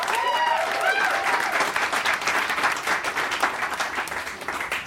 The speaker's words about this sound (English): Pick a favorite with your applause.